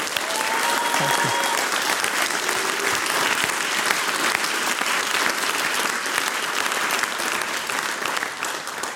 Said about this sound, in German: Und das ist, glaube ich, einen gewaltigen Applaus wert, weil so eine Musikantenfreundschaft ist nicht alltäglich.